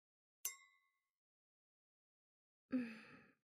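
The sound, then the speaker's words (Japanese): Wine glasses clink once in a toast, a bright ringing chime that fades quickly, followed after a pause by a soft breathy sound, like a sip or sigh. No one speaks. “それじゃ、二人の出会いに、乾杯。”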